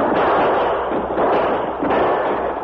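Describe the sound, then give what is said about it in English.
A dense, unbroken barrage of gunfire as outlaws leap from a locomotive cab in a prison yard and open fire, shots blurring together into a loud, steady roar of crackling noise with no pauses and no voices. “As the engine came to a stop near the end of the track, the outlaws leaped from the cab with guns in hand and opened fire.”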